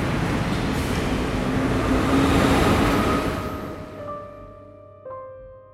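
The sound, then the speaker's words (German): A train pulls away from platform 13: a loud, steady mechanical rumble that gradually thins out, with a whining electric motor tone rising near the end. “Gleis 13, bitte Vorsicht, der Zug fällt ab.”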